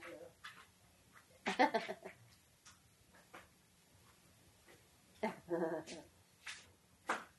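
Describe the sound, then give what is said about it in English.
A dog gives a few short, fairly faint barks and whimpering yelps in two brief bursts, separated by quiet stretches with faint clicks and low background hum. “I thought you were running to greet the dog, eh?”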